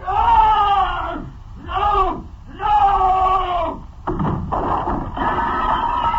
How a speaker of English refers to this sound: The silence was shattered by a terrible scream and a crash.